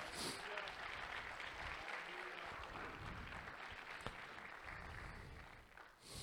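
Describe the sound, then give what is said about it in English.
Sustained applause from a church audience clapping in praise during a service, a dense steady wash of many hands clapping at once with no individual claps standing out, lasting several seconds before tapering slightly at the end. “Yeah, you can give him a hand clap of praise.”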